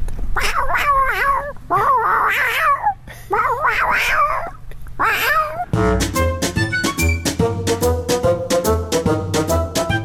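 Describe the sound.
A person imitates a cat in heat, letting out four drawn-out, wavering yowls, before upbeat music with sharp plucked notes abruptly takes over.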